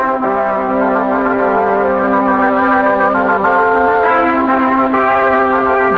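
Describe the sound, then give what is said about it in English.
A short, more modern station ID jingle for WPAZ 1370 radio in Pottstown, of sustained, bell-like synthesized chords, steady and fairly loud, shifting harmony a few times over six seconds with no voices. “That ID goes back about 25 years. Here's a more modern one.”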